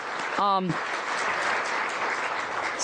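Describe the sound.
A crowd claps steadily throughout for a speaker after a talk on the disability bug issue, a dense, even wash of applause, with a short voiced shout or cheer rising briefly near the start.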